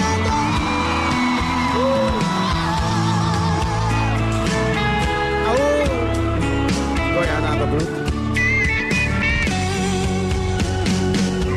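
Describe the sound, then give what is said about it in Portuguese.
A live concert crowd screams and cheers loudly and continuously, their voices blending with the full band playing throughout, with occasional whoops rising above the mix. “E o grito dos apaixonados.”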